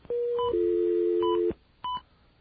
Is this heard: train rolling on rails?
no